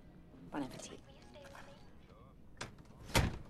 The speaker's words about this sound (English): She closes the door in his face.